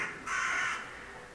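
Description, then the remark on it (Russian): A single harsh crow caw rings out for about half a second, fading into a quiet outdoor background with no voices. “Вороны знают толк в проблеме.”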